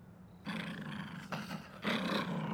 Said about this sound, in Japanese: 突然太郎が道の奥に向かってうなり声を上げました。 太郎、落ち着いて。 太郎はまるで何か恐ろしい敵を威嚇しているようでした。